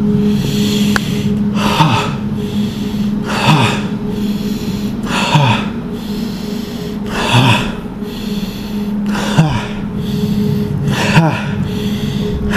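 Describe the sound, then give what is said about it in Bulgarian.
Forceful bhastrika yoga bellows breathing, with deep inhales and sharp, rhythmic exhales repeating roughly every one and a half to two seconds over a steady low hum, no talking. “Влез сега съвсем за малко в бастрика. Онова дълбокото дишане.”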